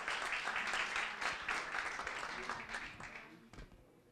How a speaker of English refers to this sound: Big round of applause, guys.